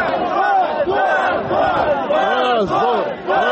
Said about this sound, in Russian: Рабочие встретили это неодобрительными возгласами.